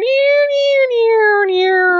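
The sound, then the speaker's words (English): A voice imitates an out-of-tune slide guitar from video game music, holding one continuous wavering note that bends and slowly slides downward, loud for about two seconds. “from that one Big the Cat stage in Sonic Adventure. The out-of-tune slide guitar.”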